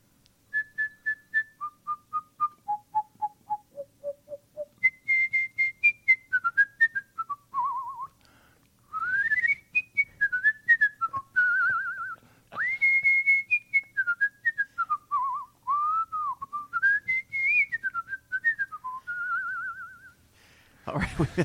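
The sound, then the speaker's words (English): A person whistles a cheerful Christmas tune solo as a sign-off in the Business Radio X studio, clear, starting with a stepwise descending phrase and continuing in lively, bouncing notes for about twenty seconds, with no talking. “Do you mind if I send off with a whistle? Oh, yeah, Christmas go for tune?”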